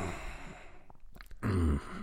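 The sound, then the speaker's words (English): A person breathes out through the nose at the end of a spoken statement: a short, breathy exhale, a soft airy rush with a few faint clicks, swelling into a louder, fuller puff of breath before fading out. No talking. “Yeah, what I did there, I had an air of authority by breathing through my nose at the end of my statement.”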